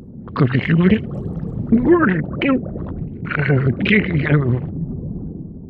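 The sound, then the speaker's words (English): A voice actor, with a bite of Jell-O in the mouth, makes wet, gurgling underwater-creature noises in several wobbling bursts, bubbly and warbling like something calling underwater, with short pauses between phrases and no actual words. “In order to get that gurgly sound, I would take a bite of Jell-O and make the sound of something with bubbles under the sea.”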